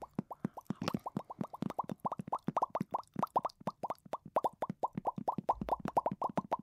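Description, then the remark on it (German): Rapid, steady lip popping like a carp's mouth, done as a jaw-loosening exercise: dozens of short wet smacks in a quick regular rhythm, fairly loud and with no talking over them. “Wir machen den Karpfen.”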